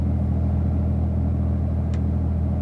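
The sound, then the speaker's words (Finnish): A car engine idles steadily, a continuous low rumble with a faint brief click partway through; no one speaks. “Sammuta Mirka moottori.”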